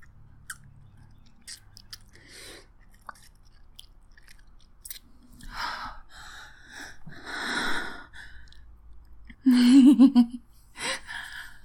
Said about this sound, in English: I'm going to have a sip.